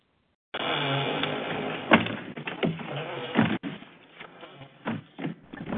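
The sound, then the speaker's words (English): A door creaks open as someone enters, with a drawn-out, squealing groan, then a sharp clunk about midway, followed by a few softer knocks and rustles. “Take a look and see what just breezed in the door.”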